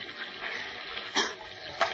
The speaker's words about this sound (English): A stiff breeze lashes the sea into angry white-capped waves that pound at the shipwrecked trio as if trying to tear them loose from the upturned hull. Listen.